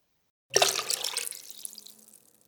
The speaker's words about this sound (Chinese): 你把这瓶粉红的液体倒进水桶里